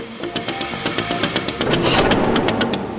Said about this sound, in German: Und das ist ein historischer Bus aus den 70er Jahren aus Dortmund